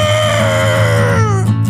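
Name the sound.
elephant trumpeting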